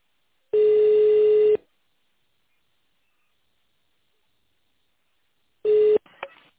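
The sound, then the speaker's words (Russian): A steady electronic voicemail beep, the signal after a Russian-language recorded message of a drug-safety line asking callers to press 0 and leave a message, sounds for about a second, then after a long silence a second, shorter beep follows, with faint clicks and a brief handset rustle at the end. “нажмите 0 и оставьте сообщение после сигнала.”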